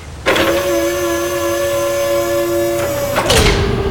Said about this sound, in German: Rums, die Tür ist zu.